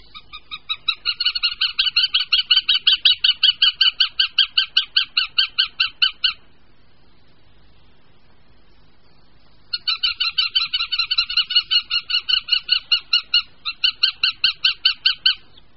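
A northern goshawk gives a loud, ringing series of rapid, evenly spaced calls that runs for about six seconds, pauses briefly, then resumes in a second long burst. It is clear, with no talking.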